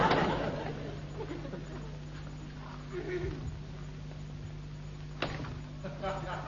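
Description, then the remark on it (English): A door in a house opens with a low, groaning creak and then a single sharp knock or thud, all over a steady low hum. “I could have sworn that door opened the other way.”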